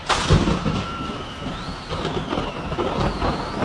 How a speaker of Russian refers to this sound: Возвращаясь в университет после очередных каникул, Мартин был застигнут в поле внезапной грозой.